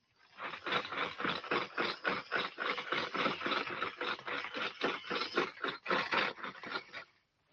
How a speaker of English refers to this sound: Nice train.